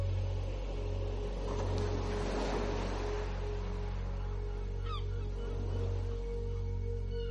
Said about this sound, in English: Just the sound of the waves moving in and moving out.